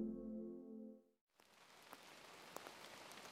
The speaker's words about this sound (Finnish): Vesi kiertää jatkuvasti. Sade osuu maahan, etsii omat reittinsä ja haihtuu sitten takaisin taivaalle, mutta siinä kulkiessaan vesi myös siirtää ainetta paikasta toiseen.